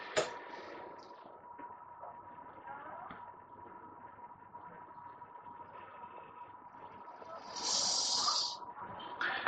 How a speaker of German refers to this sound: Es tut mir weh, fest zu atmen. Ja, dann kann ich es auch nicht tun. Und auf einmal atmet es.